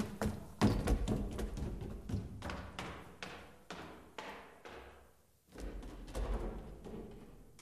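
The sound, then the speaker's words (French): Footsteps climb a staircase at a distance, a steady series of soft thuds with some reverberation, pausing briefly before a second climb begins with slightly heavier steps, panned across the stereo field. “Le même pris de plus loin. Les deux montées avec un effet de panoramique sur le second.”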